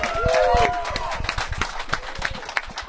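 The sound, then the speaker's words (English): A crowd assembled at the DA show breaks into the first ovation of the day, dense overlapping clapping that continues steadily throughout, with a brief whistle or cheer near the start and some voices mixed in. “Well, first of all, with the crowd assembled, can we please get the first ovation of the day”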